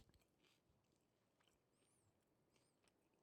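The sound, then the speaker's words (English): Someone chews a mouthful of steak taco in a tortilla, with soft irregular crunches, wet clicks and a few faint squeaky sounds over about three seconds; nobody speaks. “Well, I'm chewing it. I'm going to go in for a bite.”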